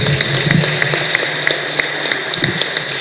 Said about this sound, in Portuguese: Livres Fêmeas. Uma salva de palmas mais uma vez.